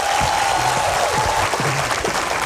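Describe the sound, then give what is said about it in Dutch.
An audience at the Zee Jaipur Literature Festival in India claps steadily for a couple of seconds for writer Chetan Bhagat, a dense, even wash of applause with a few faint tonal hums and murmurs mixed underneath. “Please give him a big hand to welcome thank him.”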